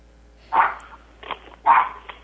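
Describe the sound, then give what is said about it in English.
A chihuahua barks twice in sharp, high yaps about a second apart, with a softer yip between and another after, with no one talking. “I would love dogs. Love them. What kind of dog you got?”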